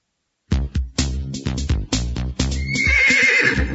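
A horse whinnies loudly, a long quavering neigh of rapid pulses lasting a few seconds and trailing off into a breathy, snorting exhale.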